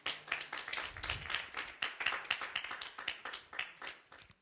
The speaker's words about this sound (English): Give God a hand clap praise.